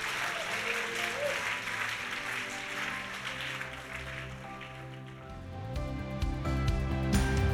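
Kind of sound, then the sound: crowd, audience applause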